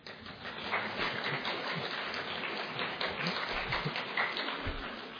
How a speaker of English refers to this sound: Okay, that's a half-hearted clap, but you must be tired too.